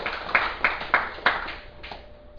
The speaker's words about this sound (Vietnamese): Xin quý vị vỗ tay một tràng vỗ tay.